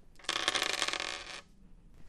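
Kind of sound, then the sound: household object, dice rolling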